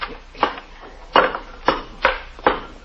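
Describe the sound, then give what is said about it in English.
A crowbar strikes a brick wall in five heavy, irregular blows, each a sharp crunching thud with a short gritty tail, and no voices in between. “Here, take this crowbar and knock that wall down.”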